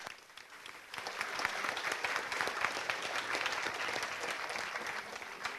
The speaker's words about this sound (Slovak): Velký potlesk.